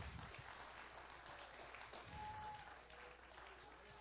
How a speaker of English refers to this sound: Give God a great clap offering of praise. Hallelujah. Glory.